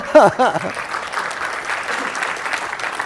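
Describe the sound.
A voice speaks briefly, then an audience at a tech presentation announcing Kubernetes support for Azure IoT Edge breaks into steady applause, a dense, even patter of many hands clapping that carries on for a few seconds at moderate loudness.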